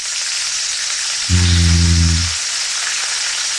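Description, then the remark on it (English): Bacon sizzles and crackles steadily in a frying pan, a constant hiss, with a brief low droning hum rising underneath for about a second midway. “Perhaps the most lovely sound in the world. Bacon sizzling.”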